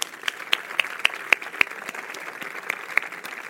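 An audience claps steadily, a dense wash of hand claps with a few sharper, louder claps standing out now and then, continuing at an even level throughout.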